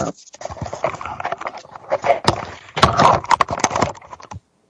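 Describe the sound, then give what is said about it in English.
A camera being knocked and jostled: a fairly loud flurry of irregular clattering bumps and taps lasting about four seconds, then stopping abruptly. “Sorry, I knocked my camera on my back on.”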